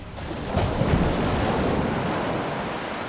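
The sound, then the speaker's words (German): Ocean waves roll in as breakers and crash onto the shore with house-high spray, a loud, sustained roar of surf and hissing spray, a broad rushing wash that swells after a brief quieter start and stays steady, with no voices. “Er sah Wellen heranrollen, haushoch die Gischt. Danach der lange Kanonendonner der Brecher.”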